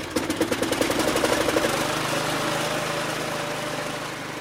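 A small lawn mower engine sputters in rapid pulses, then settles into a steady, buzzing idle drone, fairly close and moderately loud with no voices present.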